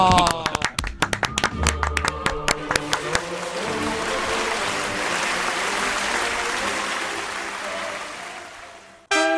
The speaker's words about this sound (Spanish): ¡Qué bueno! ¡Pum, pum, pum! ¡Un aplauso! ¡Bravo!